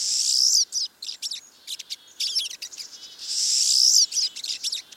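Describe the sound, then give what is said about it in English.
A flock of siskins calls steadily, mixing rapid high twitters with drawn-out wheezy, buzzing notes that swell twice, loud with no voices. “the dense groups of siskins can easily transmit diseases such as salmonellosis to each other and to other birds.”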